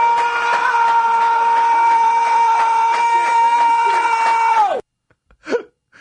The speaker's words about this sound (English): Who is that? Is that the coach screaming? Yeah, yeah. I recognize that.